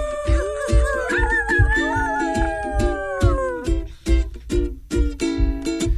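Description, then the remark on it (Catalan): Voices on the Ràdio Estel morning magazine show imitate a wolf howl with long, wavering cries that slide in pitch, set over a steady, loud rhythmic beat with drum hits throughout. “Vale, ara es faré fer llop, eh?”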